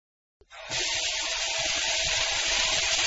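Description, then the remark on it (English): A short silence and a small click, then water from a tap bursts on and pours in a steady, loud, hissing rush that holds evenly to the end, with no voices. “First, turn on the tap.”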